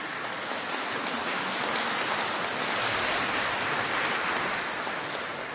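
A crowd applauds a group from Hola z Ostrowska steadily for several seconds, a dense wash of clapping that holds an even loudness throughout with no voices over it.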